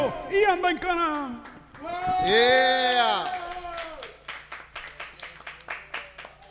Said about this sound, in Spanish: Y por favor, otro aplauso para Jennifer González porque es de las mejores estrategias políticas que han ocurrido en Puerto Rico.